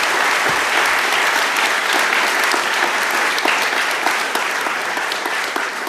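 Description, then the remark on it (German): Sustained applause from a sizable audience after a lecture, a dense, steady wash of many hands clapping at once, fairly loud, with no voices rising above it. “Ja, dann klatscht doch erstmal.”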